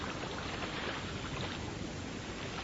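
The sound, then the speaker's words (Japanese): A steady, soft wash of calm ocean waves rolling onto the shore on the west side of Raramyu, continuous and even with no distinct breaks, heard outdoors with light wind and no voices. “穏やかな時の波の音はこんなに静かで心地いいんですよね。”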